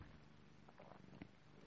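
A cat purring softly and steadily while being played with, a low continuous rumble, faint but unbroken across the short stretch, with a couple of small soft bumps and no talking.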